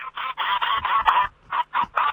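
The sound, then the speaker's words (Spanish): José Corol's pet duck quacks loudly over a phone line on Radio Nacional in a rapid run of harsh, nasal calls, about seven or eight bursts with brief gaps between them, and no talking. “Ahí está su pato que canta y anda por la calle tocando la bocina, no sé si lo escuchan.”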